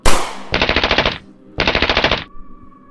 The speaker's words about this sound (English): You take a lot of automatic fire and rapid fire from automatic weapons and pistols. But your defensive capability allows you to dodge out of all the way of all that gunfire.